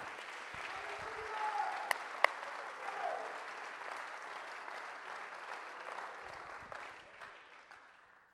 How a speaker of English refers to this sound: Somebody clap your hands all over this house.